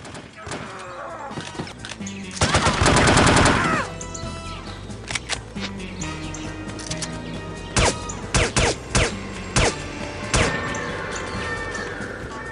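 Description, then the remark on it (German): Video game shooter combat: a loud, rapid burst of gunfire early on, then scattered sharp shots and impacts, with shouting, screaming enemy voices mixed into the busy, layered action; toward the end an alarm is triggered. “Also das klingt, ne, wie ein Shooter so klingt, mit viel Schießen und mit schreienden Gegnern und so weiter.”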